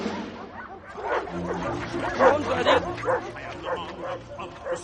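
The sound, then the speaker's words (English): Nine dogs on leashes bark and yip over one another in a busy, overlapping chorus as they pull Nitram along the sidewalk of a suburban street in the daytime, with whimpers mixed in and a continuous low rumble underneath. “On a suburban street, Nitram is pulled along the sidewalk by 9 dogs on leashes.”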